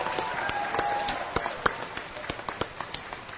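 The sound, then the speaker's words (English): An ACB meeting audience gives a round of applause for Carla Rushival of Kentucky for her many years as treasurer: scattered, irregular hand claps from a small group, crisp and moderately loud, continuing steadily for a few seconds without building to a roar. “Carla, listen to everybody give you a warm round of applause for the many years you've served as treasurer.”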